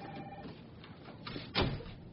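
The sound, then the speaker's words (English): A door slides and swings shut with a single muffled thud near the end, otherwise quiet with faint background hum. “Could you close the door?”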